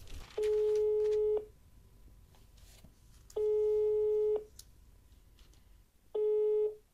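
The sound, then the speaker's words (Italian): A phone line ringback tone sounds three times, each a steady electronic tone about a second long separated by a few seconds of quiet line hiss, heard clear. “Dopo essermi messo in contatto con l'archivio, sospinto solo dalla curiosità del titolo e da un estratto del diario, le telefono.”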